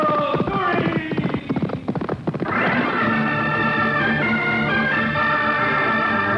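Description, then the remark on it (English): A Palomino horse named Curie gallops with rapid, loud hoofbeats for a couple of seconds in the Straight Arrow radio show, then a bright, sustained swell of tones takes over and holds steady to the end. “Manitoua, from all of us, and from Curie, my great Palomino, and me.”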